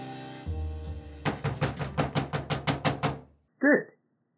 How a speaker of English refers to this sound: I grabbed my jacket just as he started knocking on the door.